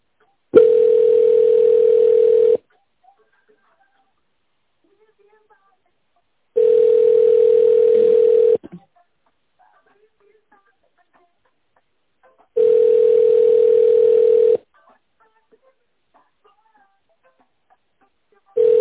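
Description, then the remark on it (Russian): A telephone line tone on hold during a call to the company Vitupoekt sounds in steady, mid-low pitched beeps about two seconds long, separated by roughly four-second silences, repeating three times before a fourth begins. No one speaks. “Наберите внутренний номер сотрудника или дождитесь ответ секретаря.”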